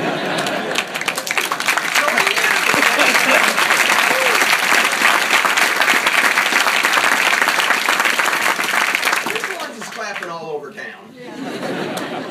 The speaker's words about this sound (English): Clapping and everything else.